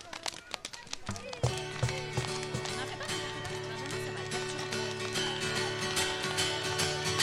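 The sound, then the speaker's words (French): Quick, rhythmic clip-clop taps imitate galloping horse hooves, crisp, first alone and then continuing under a steady sung tone that enters after about a second and a half. “Comment il galope les chevaux?”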